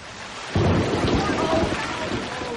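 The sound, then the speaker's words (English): A deep roll of thunder breaks in after a moment of steady rain hiss, rumbling loudly for a couple of seconds while the rain keeps pattering underneath. “And then it started to rain, and...”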